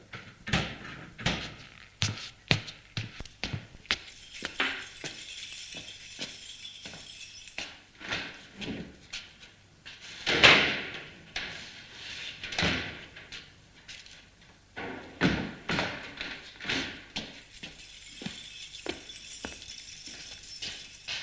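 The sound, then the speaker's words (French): A house door being opened by a man just out of his car: a run of sharp clinks and rattles, like a latch and handle being worked, with a louder thud midway and scattered knocks afterward. No voices. “Sort de voiture et ouvre la maison.”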